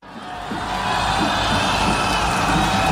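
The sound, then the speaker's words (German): Tens of thousands of people cheer loudly and continuously in the open air on a square in Warsaw, Poland, as a candidate of the governing liberal Civic Platform steps onto the stage at a rally. A dense wash of voices with scattered whoops and shouts rises above the roar. “Zehntausende jubelten Rafał Trzaskowski zu, als der 55-jährige Kandidat der regierenden liberalen Bürgerplattform letzten Sonntag auf einem Warschauer Platz auf die Bühne trat”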